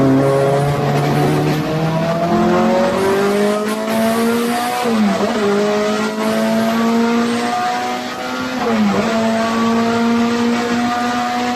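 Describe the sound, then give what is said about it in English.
A race car engine drones loudly and steadily through a hairpin turn, revving up to about 8,000 in third gear, its pitch climbing in long sweeps, dipping sharply twice as the driver shifts down through the corner, then rising again. No voices. “Pretty much just rode it up to $8,000 in third gear there. Turn at the beginning of the hairpin.”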